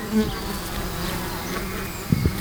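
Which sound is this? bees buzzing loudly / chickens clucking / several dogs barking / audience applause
bees buzzing loudly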